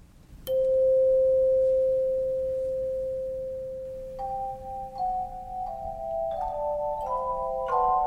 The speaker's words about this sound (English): One of our other instruments that we love to use is called the choir chimes. We love the choir chimes because they make a really beautiful, mellow, gentle sound.